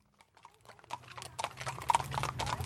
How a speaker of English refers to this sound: There are horses on Henderson Street in Seattle. They're headed from what you could argue is the city's last big family farm through Rainier Beach, one of the city's most diverse neighborhoods, down to the lake.